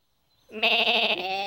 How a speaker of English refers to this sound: There were mostly just sheep, especially around Dave's house, because Dave was a shepherd.